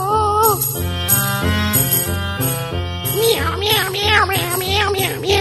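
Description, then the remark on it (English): A singing voice imitates a cat's meows, several drawn-out, gliding mews sung loudly over a bouncy musical backing with steady bass and bright accompaniment. “Meow, meow, meow.”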